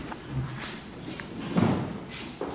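A door is pushed shut during a session voting on articles, with a few dull thuds and a heavier knock near the middle, set against faint room noise and shuffling.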